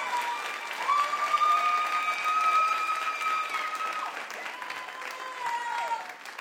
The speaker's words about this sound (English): And so I'm going to ask my lovely wife to join me up here on the platform. Give her a big hand clap if you would.